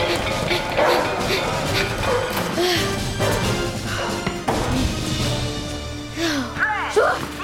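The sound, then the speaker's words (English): Several dogs bark and yip excitedly in a noisy, busy scene, with overlapping voices and occasional thuds and crashes underneath the continuous barking. “They let the dogs out!”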